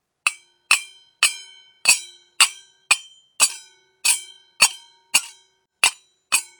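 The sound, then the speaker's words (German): A pair of small hand cymbals (Zimbeln), one held in each hand, are clashed together like clapping about a dozen times at a steady pace. Each bright metallic strike rings with a high shimmer that fades quickly before the next. No one speaks. “Und jetzt die zwei kleinen Teller. Die heißen Zimbeln. Nimm eine in jede Hand und dann schlag sie zusammen, wie beim Klatschen.”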